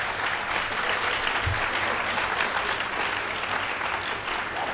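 A crowd applauds steadily, a dense, continuous patter of many hands clapping at once that holds at an even level for several seconds, with no one speaking.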